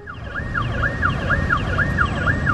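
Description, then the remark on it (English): A police car siren yelps in rapid, repeating up-and-down sweeps, fairly loud, over a steady rumble of city street traffic in Rio de Janeiro, Brazil. No one speaks. “Police cars and men in uniform can be seen and heard everywhere in Rio.”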